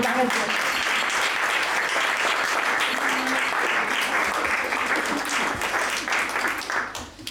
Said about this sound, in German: In diesem Jahr feiert die Begegnungsstätte 35-jähriges Bestehen. Und ich denke, das ist auch mal ein Beifall wert.